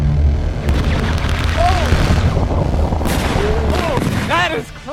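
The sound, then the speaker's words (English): A fierce chemical reaction releasing tremendous heat roars and crackles loudly and continuously as it liquefies metal, a dense rushing blaze, with short excited voices calling out over it. “It releases a tremendous amount of heat. Oh no, the GoPro! Liquefying metal.”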